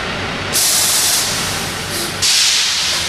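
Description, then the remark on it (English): A large truck rumbles low and steady, broken by two loud bursts of air-brake hiss as it is eased into the loading bay at Walmart's Wasilla Supercenter; no one speaks. “are easing the truck into the loading bay at Walmart's Wasilla Supercenter.”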